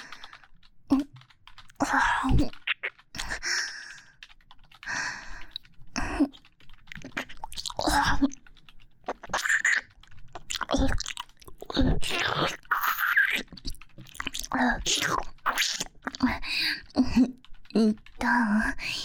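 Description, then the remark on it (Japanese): ASMR ear licking: a moist, soft tongue licks and sucks at the ear. Wet mouth sounds of irregular smacks, clicks and slurps come in uneven bursts with soft breathy gaps, fairly loud and crisp, with no clear speech. “しっとり濡れた柔らかい舌で耳を舐めしゃぶられるの。”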